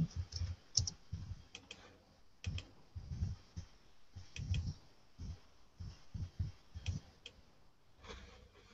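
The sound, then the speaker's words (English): Irregular bursts of computer keyboard typing, quick clicking keystrokes clustered in short runs with brief pauses between, fairly quiet, with no voices. “Start typing.”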